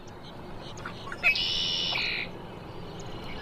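A red-winged blackbird at Sweetwater Wetlands Park, a wetland in Gainesville, Florida, gives one song: a quick introductory note, then a bright, buzzy trill lasting about a second, clear over a steady hiss of outdoor background noise.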